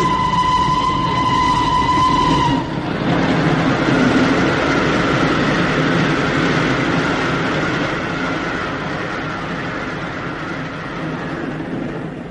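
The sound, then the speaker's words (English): A train rushes into a tunnel with a loud, steady roar and rattling rumble, a brief high whistle sounding at the start before the dense, enclosed-sounding clatter fills the rest. “We're going into a tunnel! Quick, the lights!”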